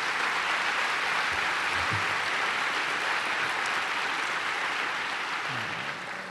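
Sustained audience applause at an event in Estonia, a dense, steady wash of many hands clapping at once, loud and even throughout with no voices over it, tapering only slightly at the end.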